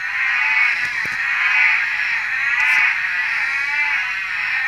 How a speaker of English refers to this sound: Now, I can only hear one species calling, and that's the northern orange-eyed tree frog, Latoria xanthomera. They've got a really long, high-pitched cat-like call, wah, wah, wah, that rises in volume.